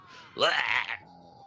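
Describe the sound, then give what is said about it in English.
A short burst of a woman screaming tangled with men groaning: one loud, strained cry that rises in pitch for about half a second, then drops away to a faint steady hum. “Woman screaming, men groaning.”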